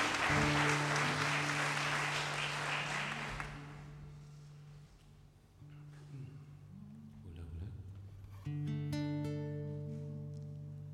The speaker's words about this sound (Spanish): Un aplauso para los trovadores, un aplauso inmenso. La misa criolla desde el auditorio de Radio Nacional.